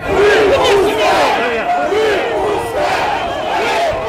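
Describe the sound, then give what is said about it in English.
A large anti-corruption protest crowd in Moscow, surrounding the police bus holding opposition leader Alexei Navalny, chants "Release him" loudly in Russian, many voices shouting together in rising and falling waves that stay dense and steady throughout. “Protesters surrounded the police bus where they were holding him and chanting, "Release him," in Russian.”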